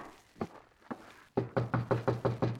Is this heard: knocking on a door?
yes